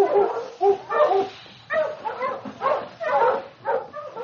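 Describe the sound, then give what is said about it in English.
A team of husky sled dogs pulling a sled across snow toward the town of Dawson barks, yips and whimpers in a steady run of excited, overlapping bursts, fairly loud, with no voices. “The dogs were strong and seemed to know that they were heading home.”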